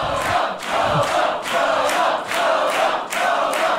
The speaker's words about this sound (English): What a red letter day in arm wrestling history. The most predictable outcome has excited the crowd.